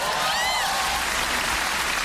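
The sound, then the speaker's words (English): Bacon sizzles as it fries in a hot pan, a steady wash of dense crackling and popping that fills the whole moment, bright and hissy like soft applause. “Even the frying of bacon sounds like applause.”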